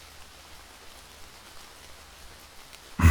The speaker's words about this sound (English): We should still head back, though. It's getting late, and doesn't look as though this rain's going to be letting up anytime soon.